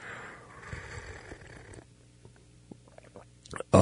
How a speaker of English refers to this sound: He thinks that slurping coffee on the air is a distinct advantage, which we do. Should we do it again? Slurp coffee?